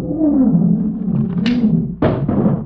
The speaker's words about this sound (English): Professor, there's a lion in that room?